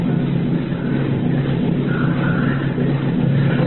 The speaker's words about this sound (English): Water's pouring down the steps. Turned white with the foaming water. It makes a tingling in the air, like breaking waves. It's known as a cascade process. It purifies, aerates the water for drinking.